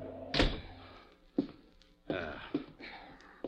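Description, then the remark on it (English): A door is kicked shut with one loud, heavy thud, followed by a few softer knocks and bumps spread over the next few seconds. “Kick the door shut.”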